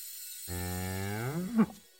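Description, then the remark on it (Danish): A single cow moos once, a long, low, droning call that rises slightly in pitch and ends with a short upward strain before cutting off. Clear, no other sounds. “Mums, en lækker ko.”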